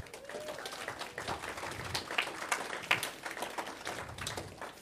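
An audience applauds steadily, a dense, even patter of many hands clapping that holds at a moderate level for the whole stretch, with a few sharper individual claps poking through.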